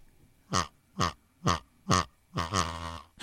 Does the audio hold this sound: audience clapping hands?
no